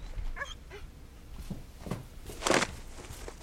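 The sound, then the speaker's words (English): A hurt dog with open wounds whimpers in a living room, a few thin rising whines followed by three short, sharper yelps spaced about half a second apart, with no talking. “Why is there a dog in my living room?”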